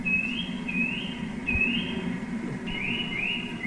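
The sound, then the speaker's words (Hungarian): A Eurasian nuthatch call played back by pressing a button on a bird-sound board: a steady series of about six clear, rising whistled notes, evenly spaced and fairly loud, over a low rumbling background hum. “Nézzük a csuszkát, én nem is ismerem a csuszkának a hangját, megnyomom.”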